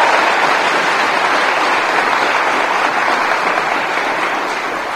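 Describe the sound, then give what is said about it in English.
Sustained audience applause at a Gloucester community event for a young musical performer's rendition, a dense wash of many hands clapping at once, loud and steady for several seconds before easing slightly toward the end. “Another round of applause for your beautiful rendition.”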